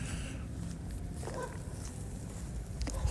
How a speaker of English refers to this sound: going just on a little stroll here as it's starting to rain on me as I'm half mile from the house. walking back south now on North Main Street.